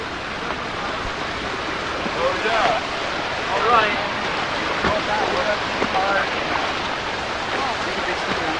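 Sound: flowing creek water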